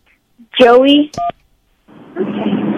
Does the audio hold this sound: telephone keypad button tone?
yes